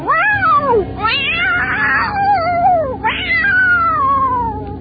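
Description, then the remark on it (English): Altered cats from an out-of-control experiment at the Health Science Center of the State University of New York at Stony Brook meow and yowl loudly, with long, wavering cries rising and falling in pitch and overlapping almost continuously, with no one speaking. “Deep within the Health Science Center at the State University of New York at Stony Brook, the most terrifying experiment in the history of science is out of control. Altered cats.”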